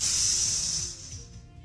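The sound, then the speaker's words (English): A voice makes a single drawn-out hiss like a snake, the sort of 'tss' that stands in for the cymbal at the end of a rim shot, fading out after about a second. “But it had a rim shot.”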